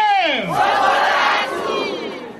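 A large crowd of supporters of Chakwera's presidential campaign in Malawi cheers and shouts loudly, with a rising, falling chorus of voices at the start swelling into a dense, sustained roar that stays strong throughout.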